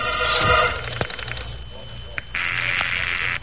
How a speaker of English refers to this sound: I ran to the phone booth, dropped a dime into the slot.